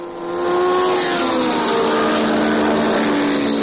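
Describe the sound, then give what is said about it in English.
A car engine roars loudly and steadily, its revving pitch rising and falling in harmonic bands, sustained for the full few seconds with no voices. “It can roar like this.”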